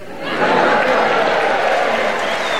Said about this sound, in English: I should explain to our listeners the reason everybody in the audience has clapped is because it's a very famous haunt here in Harrogate.